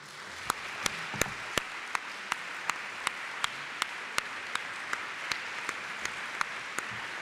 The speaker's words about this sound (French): qui a assuré la traduction, que vous pouvez applaudir aussi.